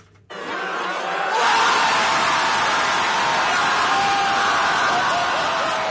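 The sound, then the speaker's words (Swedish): A large outdoor crowd of opponents of President Yoon Suk-yeol, outside South Korea's Constitutional Court, erupts in a joyful roar as the court removes him from office, swelling quickly within the first second and a half, then holding a dense, loud, continuous wall of cheering to the end. “Et gledesbrøl fra president Yoon Suk-yeol sine motstandere utenfor den sørkoreanske grunnlovsdomstolen.”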